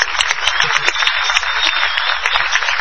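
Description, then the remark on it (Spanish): An audience in the Pablo Picasso hall at the Paseo de la Plaza breaks into a sustained ovation greeting Patricio Bartón, a dense, steady wash of many hands clapping at once, loud and continuous with no talking over it. “Aquí estamos en el Paseo de la Plaza, en la sala llamada Pablo Picasso, y con Patricio Bartón, a quien vamos a saludar con esta ovación.”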